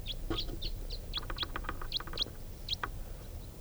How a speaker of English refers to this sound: And going from one grove to another, not stopping. Sounds like there are quite a few crossbills over there.